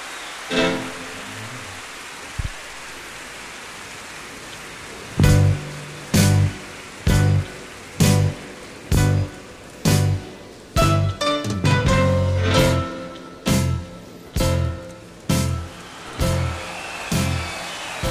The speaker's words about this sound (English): So you can hear some crowd cheering.